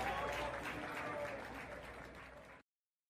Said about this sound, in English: And you hear the applause at the end for me by many of my adversaries who I had become a hemorrhoid and a red beret to during the 80s and 90s whenever they would whip out a spliff of marijuana, a joint, a bowl, a bong.